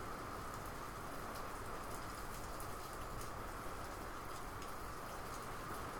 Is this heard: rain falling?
yes